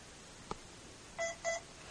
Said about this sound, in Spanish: Voy a apagar esto, un botón a la izquierda arriba, lo aprieto y da dos bips dos veces.